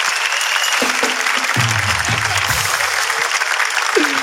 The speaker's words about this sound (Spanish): Pero ya vieron que es bueno. ¡Vaya, es bueno! ¡Es bueno! ¡Un aplauso para el amigo! ¡Hermano comediante!